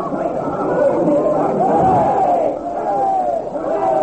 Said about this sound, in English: Outside, the people are cheering as they hear the jury's verdict.